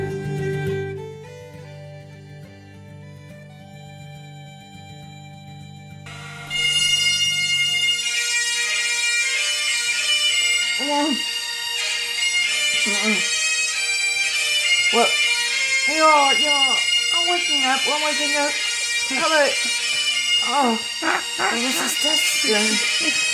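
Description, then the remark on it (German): A mobile phone alarm ringtone plays the bagpipe tune Scotland the Brave: a low droning opening, then a loud, reedy melody over steady sustained drones, continuing without pause. “Du bist hier bei mir und hast meine Klingel gehört, meine Handyklingel.”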